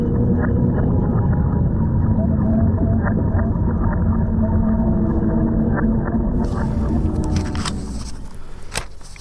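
animal, beluga whale vocalizations

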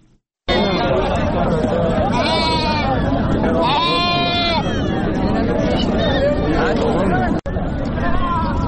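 animal, sheep bleating

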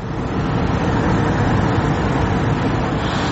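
vehicle, cars queuing

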